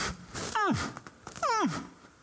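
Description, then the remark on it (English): A person twice imitates a lion's roar, each a loud vocal howl that sweeps down from high to low pitch, about a second apart, with no other talking. “You know, that lion could only go,”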